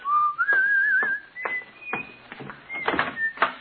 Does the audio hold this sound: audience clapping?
no